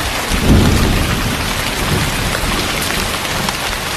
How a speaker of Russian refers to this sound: Идет дождь. Дождь идет. Это уже вшиты в мультимедийку звуки, там, живая природа.